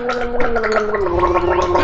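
Someone gargles water steadily for about two seconds, a loud, bubbly, rattling throat sound with a sustained voiced hum underneath and no words spoken.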